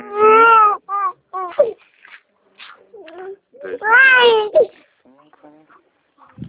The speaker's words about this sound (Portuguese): Ai, meu sobrinho chorando. Só um minutinho que eu vou ver se minha nora tá aqui pra ficar com ele.